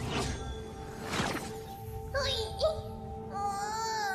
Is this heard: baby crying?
yes